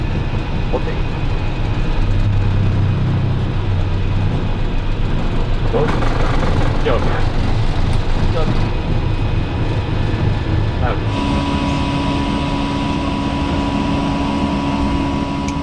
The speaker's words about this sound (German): Und dann irgendwann war einfach klar, jetzt starten wir, jetzt ist Ende. 15.39 Uhr Ortszeit am Sonntag, den 8. November 2020, ist Air France Flug AF1235 in Tegel abgehoben. Und das war das allerletzte Mal.